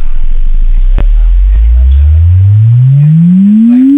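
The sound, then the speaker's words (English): A loud exponential sine-wave test sweep starts as a deep bass rumble and glides smoothly upward in pitch over several seconds, with faint background hiss and a soft click near the start. “Prepare now for exponential sine wave test sweep.”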